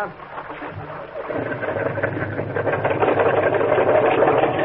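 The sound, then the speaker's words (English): The motor of a boat held in the surf catches after a quieter moment and settles into a steady, loud drone with a busy mechanical rattle that continues to the end. “Hold it into the surf till he gets the motor started.”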